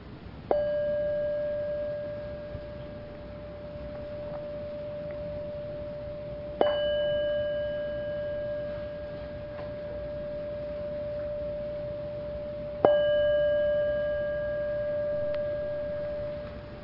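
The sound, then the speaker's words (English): A meditation bell is struck three times to end a sitting, about six seconds apart, each strike ringing out clearly and sustaining a long, pure, humming tone that fades slowly before the next. No one speaks. “But as I ring the bell to end the sitting, it is your wakeful nature that hears the bell.”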